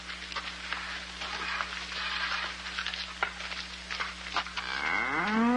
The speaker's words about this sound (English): Look at this big cow. I'd like to get some of that. I certainly would, too.